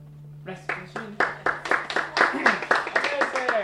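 Two representatives from the John F. Kennedy Center for the Performing Arts in Washington, D.C. clap steadily after young violinists play the can-can at Glacier Valley Elementary School. The sharp claps come in quick succession over a faint low hum, with some indistinct murmuring in the background.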